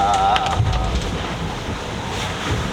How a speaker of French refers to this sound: Coup de chance, il s'est rétabli tout seul. Pas besoin de sortir. Le bateau il s'est couché et le pilote a tiré la barre et il a réussi à redresser le bateau tout seul. On s'est planté dans la vague, le bateau s'est arrêté.